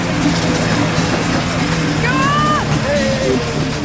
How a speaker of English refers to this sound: Finally, the brothers have got one engine started, but immediately it throws off the drive belt. One belt's fallen off already.